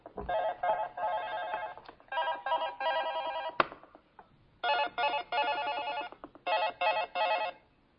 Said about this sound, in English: My phone wanted to get in on the presentation, even though it's on mute. Excuse me.